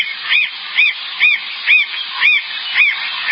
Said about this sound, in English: Yeah, we voted to put them in the Heavy 100 one year as a radio show, and Steven started playing bird sounds on the show.